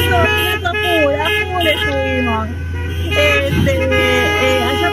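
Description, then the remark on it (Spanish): Several car horns honk loudly and repeatedly in a community protest at a traffic light, overlapping one another in a steady street din, with voices mixed in beneath the traffic noise. “Estuvimos haciendo también un semaforazo, mucha repercusión, mucha bocina de parte de la comunidad, de la sociedad toda,”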